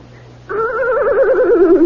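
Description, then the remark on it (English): A horse neighs after a quiet half-second: a loud, sustained, wavering cry that quivers rapidly in pitch and holds steady until the end. “What they used to do with old used-up horses?”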